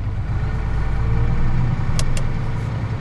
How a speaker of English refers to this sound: oil trucks like this one head to the terminal in South Portland 2 to 3 times a day to refill at one of about 5 different wholesalers.